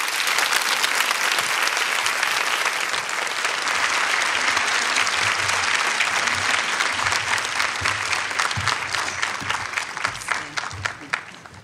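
Sustained audience applause for speaker Malika Chopra after her talk, a dense, steady wash of many hands clapping that stays loud throughout and thins slightly toward the end, with faint voices mixed underneath.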